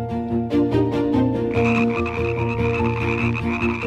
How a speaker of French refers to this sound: Renette ou Crapaud qui nous écoutait, du verbe coasser